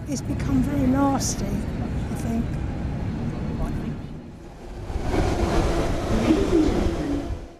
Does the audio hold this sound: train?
yes